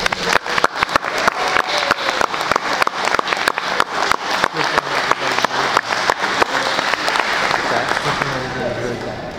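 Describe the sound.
An audience claps steadily at an evening event for kids at Norton, many hands producing a dense, sharp patter that holds for several seconds, with a murmur of voices underneath before the applause thins out toward the end.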